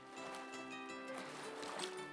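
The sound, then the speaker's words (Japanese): Soft ocean water sloshing and lapping near the shore at the seaside on a breezy day, a steady gentle wash heard close by and fairly quiet, with a faint tonal hum running underneath. “風が気持ちいい。波の音も心地いいわ。”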